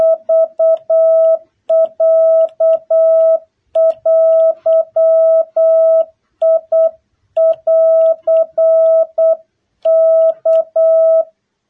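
An old dial telephone rings in loud, close bursts of a steady electronic two-tone pitch, each group made of short rapid pulses separated by brief gaps, with no voices.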